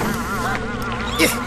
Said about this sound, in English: What the hell is making it buzz like that? It sounds like a bees. Bees. I know it sounds like bees, but it's empty.